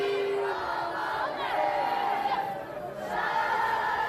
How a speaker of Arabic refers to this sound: دقائق من صمت بعد مغادرة ملعب الأمير مولاي الحسن في العاصمة الرباط قبل أن تردد الجماهير بشكل جماعي وبصوت عالي ديما مغرب في عقاب خسارة لبؤات الأطلس لمباراة نصف النهائي في كأس إفريقيا للسيدات بضربات الجزاء ضد الكاميرون.